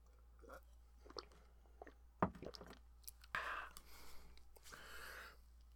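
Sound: sipping water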